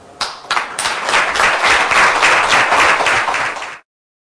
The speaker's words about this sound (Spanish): Gracias, y quiero pedir algo muy importante, y no quiero que se los olvide. Ustedes son los que importan. Ustedes se tienen que aplaudir ustedes mismos.